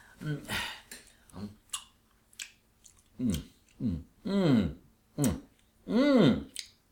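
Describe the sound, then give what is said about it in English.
Wet chewing and smacking bursts come first, followed by a series of drawn-out, rising-and-falling voiced murmurs, like someone making exaggerated mouth noises while chewing and tasting a meat dish. “You are supposed to chew it, gesticulate it.”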